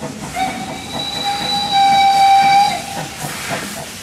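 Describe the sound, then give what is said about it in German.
A steam train rumbles along the rails with a steady chuffing hiss, while a long steam whistle blows for about two seconds in the middle. No one speaks. “Und während seine Klassenkameraden eingeschmuggelte Platten mit Rockmusik aus dem Westen hören, kauft sich Rudisch eine LP mit Dampflokgeräuschen.”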